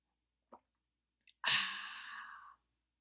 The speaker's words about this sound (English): That was the sweet sound of me taking a sip of my water with element electrolytes in it. Element tea. I like them.